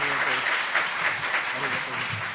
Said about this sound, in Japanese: それじゃあ、はい、じゃあもう一度拍手してお迎えしましょう。